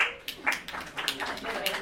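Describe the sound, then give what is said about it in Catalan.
A scattered burst of applause from a small crowd, uneven claps overlapping at moderate loudness for a couple of seconds, with some voices murmuring underneath. “Vale, podeu aplaudir, però una mica d'aplaudòmetre.”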